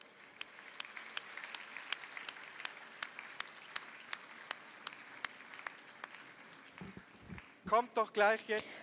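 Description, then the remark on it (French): An audience applauds for those who said a prayer, a steady, sustained patter of many hands clapping, holding a fairly even level for several seconds before a voice starts speaking as the applause fades out. “Nous voulons applaudir pour ceux qui l'ont prié.”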